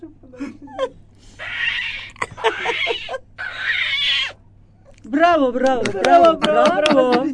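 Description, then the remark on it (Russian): A person imitates a cat, starting with breathy hissing noises, then a quick run of loud, wavering meows that rise and fall in pitch. “Это кот, да?”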